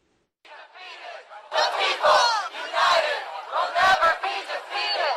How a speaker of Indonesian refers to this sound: Dua aksi demonstrasi pecah di Boston hari Sabtu. Salah satunya kerumunan massa liberal yang mendukung keragaman dan mengecam para nasionalis kulit putih,